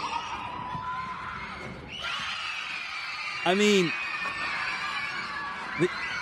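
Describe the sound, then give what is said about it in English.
Young children scream with joy over a steady crowd din on an asphalt slab between office buildings in Georgetown, Washington, one high, wavering shriek rising and falling, then a shorter yelp, while a voice speaks briefly. “the utter joy with which these little kids scream, I got to run that back, because you hear it.”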